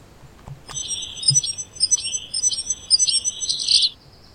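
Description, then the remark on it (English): A small bird sings a high, squeaky, repeating phrase in quick rhythmic bursts, like a creaky bicycle wheel turning, clear for about three seconds with no talking. “This one, I think, sounds like somebody on a squeaky bicycle.”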